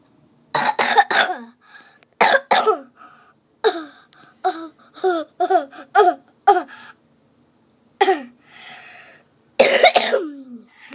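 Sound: repeated coughing fit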